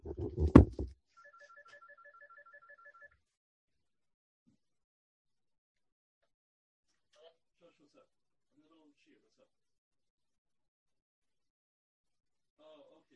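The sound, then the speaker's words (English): A thump, then a phone rings with a rapid, pulsing electronic trill for about two seconds, fairly quiet. Faint voices murmur later on. “Excuse me, my phone is just ringing.”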